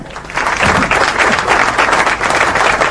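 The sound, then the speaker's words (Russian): A studio audience bursts into steady applause for a contestant who named the hero as Sherlock Holmes, many hands clapping in a dense, sustained wash of sound that swells quickly and holds at an even, loud level throughout. “Это ваши законные аплодисменты.”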